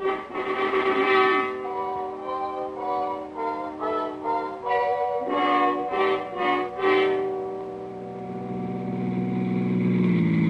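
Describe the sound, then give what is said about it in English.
A car engine hums steadily, its pitch shifting as the car drives into an alley, then easing down and settling toward an idle as it parks close to a building and stops. No voices. “Usually no parking places on the street, so I leave the car here and go in the back way.”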